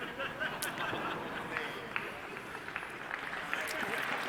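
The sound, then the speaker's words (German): An audience claps steadily in a dense, continuous patter that holds at an even level throughout, with a few sharper claps standing out and a murmur of crowd noise underneath. “Ihr klatscht ja schon vorher.”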